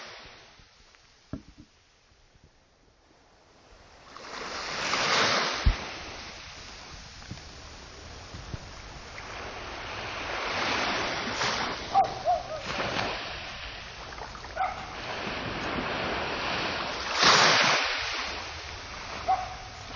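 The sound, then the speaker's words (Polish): Sea waves on the Black Sea coast of Ukraine wash steadily onto the shore in a continuous rushing hiss, with two stronger surges breaking and receding, with no talking. “To teraz takie krótkie multimedia z ukraińskiego wybrzeża, tym razem Morza Czarnego.”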